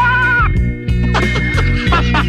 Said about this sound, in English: I look up in the hayloft. I hear your gentle bleat.